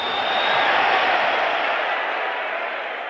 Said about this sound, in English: Jerry Quarry, the number one ranked challenger, who is, of course, tonight going to be fighting, now on the far side, coming in, of course, the crowd yelling, screaming, Rick's boos, again stepping in as a heavyweight, Muhammad Ali.